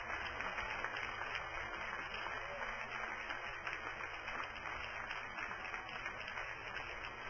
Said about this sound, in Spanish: Y le vamos a dar un aplauso bien fuerte al pastor de esta iglesia, para la gloria y honra de Dios. Déselo fuerte.